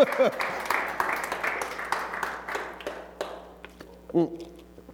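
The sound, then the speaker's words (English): An audience claps in a dense, steady patter that gradually thins and fades over several seconds, with a short vocal sound at the start and another near the end. “If you're going to clap, go ahead.”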